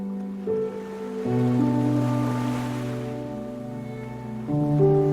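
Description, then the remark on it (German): Ocean waves rush and swell softly beneath sustained, droning musical tones, the surf rising to a fuller wash midway before easing back. No voices. “Spürst noch einmal das warme, goldene Licht der untergehenden Sonne auf deiner Haut, hörst das Rauschen des Meeres.”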